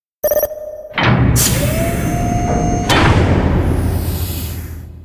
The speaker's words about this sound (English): At that moment, the door opens.